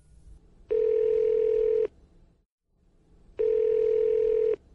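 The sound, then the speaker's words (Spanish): Two long, steady telephone tones sound as a phone call is placed to a government minister, each lasting just over a second with a pause between them, clear with a faint hum underneath and no one talking. “Cuando llamé al ministro por teléfono, él aceptó reunirse conmigo en su despacho la mañana del sábado 30 de octubre de 2010.”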